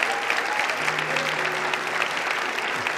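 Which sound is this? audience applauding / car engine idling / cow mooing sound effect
audience applauding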